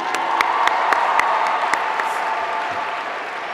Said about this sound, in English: For those who do not know, the Big Red Marching Band is one of the largest student-run organizations in the Ivy League. It is the larger by far... But yeah, we can give them another round of applause if y'all want to.